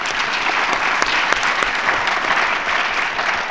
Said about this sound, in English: I think this has been a wonderful session. Please join me in applauding the speakers.